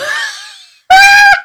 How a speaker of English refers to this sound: These are children screaming outside.